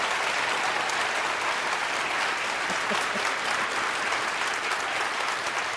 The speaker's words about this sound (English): Thank you very much. Are you getting used to that kind of applause not at all. That you're getting? Not at all.